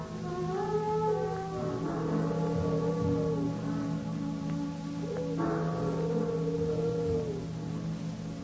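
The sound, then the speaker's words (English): Deep temple bells toll twice at midnight by palace grounds, each strike swelling into a long, shimmering ring of layered tones that hang over a steady low hum, with no voices. “Temple bells always go off at midnight?”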